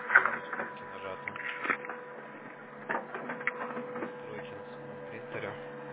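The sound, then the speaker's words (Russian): A printer runs steadily, its mechanical whirring and clicking punctuated by louder clunks as pages feed through, with a steady hum underneath; it has restarted the print job from the beginning, printing pages 57 to 94 over again. “Вот, видите, он опять по новой начал печатать.”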